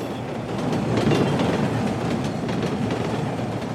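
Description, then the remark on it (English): A train moves slowly and rumbles steadily along the track with a continuous low roar and faint rhythmic clacks of wheels, fairly loud, with no voices. “A train moves slowly along its track.”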